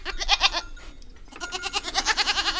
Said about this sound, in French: Ça, c'est une petite chèvre blanche qui est restée dans l'étable. Elle est encore trop petite pour suivre sa maman dans les prés.